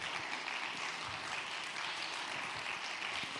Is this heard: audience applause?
yes